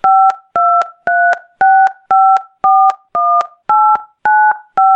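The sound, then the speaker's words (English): A steady series of about ten touch-tone keypad beeps as an account number is typed into a phone during a customer care call, each a short dual-pitched tone with brief gaps, pressed at an even pace, loud, with no voices. “No, I can't see what you're typing into the phone.”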